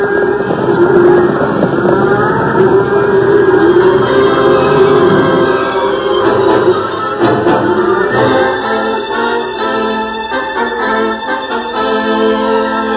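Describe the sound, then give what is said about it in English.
Sound effects of a herd of cattle stampeding in a thunderstorm: a dense, loud, unbroken roar with rumbling thunder, some bellowing tones rising through the din. No one speaks. “Cattle ran for 10 miles before the last of the thunder rumbled away in the distance.”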